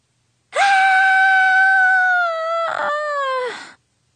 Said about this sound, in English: That was me screaming in frustration.